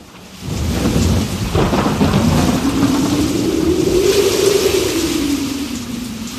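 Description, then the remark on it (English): Heavy rain pours steadily while deep thunder rumbles, with a low howling tone rising and falling through the storm. The noise starts abruptly and stays loud throughout, with no voices. “At the start of the 20th century, this entire coastline was flattened during a storm.”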